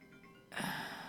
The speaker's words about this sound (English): I don't even know if you guys can hear this or not, but it's a phone call that's coming through. Sorry about this, listeners. It's a phone call that's apparently coming through my computer, and it was a scam likely, but I could hear it.